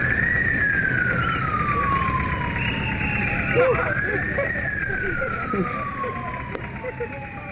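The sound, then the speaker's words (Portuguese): A loud ambulance siren wails in long rising and falling sweeps, with steady traffic rumble underneath and faint voices in the background, as the ambulance carries a 66-year-old patient to the emergency unit of the Central Hospital of Yaoundé. “Uma ambulância transporta uma paciente de 66 anos de idade para a unidade de emergência do Hospital Central de Yaoundé.”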